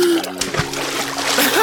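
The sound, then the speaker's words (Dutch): Water splashes loudly and continuously in a bathtub as a person in swim trunks jumps into the cold water, a busy churning slosh lasting under two seconds. “Lekker koud water!”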